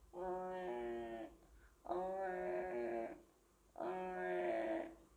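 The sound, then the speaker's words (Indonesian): A baby girl cries in three loud, drawn-out wails, each lasting over a second and separated by short breaths. The crying is clear, with no talking. “Saat akan mengidungnya, bayi itu tiba-tiba menangis.”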